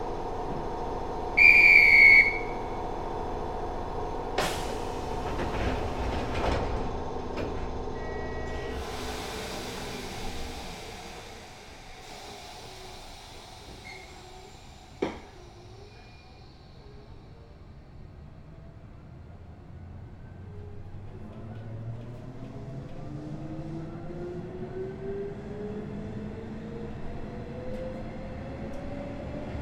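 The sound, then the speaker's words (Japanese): A sharp, high whistle blows, followed by a few heavy clunks as the doors of the express train bound for Fukuoka Tenjin shut. Then a rising electric motor whine and low rumble sound as the train pulls away, next stopping at Ohashi. “福岡天神行き急行です。扉が閉まります。ご注意ください。”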